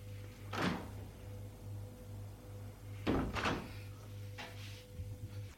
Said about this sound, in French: Demi-seconde après, on frappe à la porte.